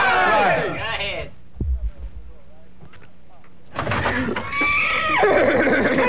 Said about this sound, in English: There's a horsey out there.